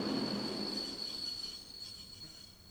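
A train brakes at night in the city of Lublin, Poland, with a high, steady metallic squeal of its wheels over a broad rumble of rolling cars that gradually fades as it slows, with no voices.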